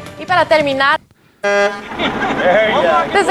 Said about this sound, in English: Okay, we're watching this old woman driving a Mack truck, apparently. Well, she honked the horn. Is that it?